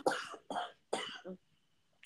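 cough

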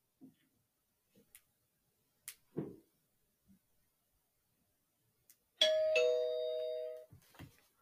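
doorbell ringing

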